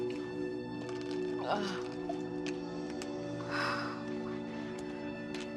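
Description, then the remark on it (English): A woman on a bus at the Shanghai quayside takes a couple of wet gulps and swallows from a bottle of water, washing down four ibuprofen tablets. This happens over a steady low engine hum with faint talk in the background. “She gulps down 4 tablets, washing it down with another bottle of water.”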